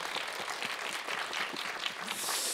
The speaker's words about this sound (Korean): 그런 곡들이 더 많이 나와서 우리에게 기쁨과 행복이 또 넘칠 수 있고 네. 하나님을 더 가까이 갈 수 있는 그 통로가 될 수 있도록 큰 박수 환호로 응원해 드렸습니다.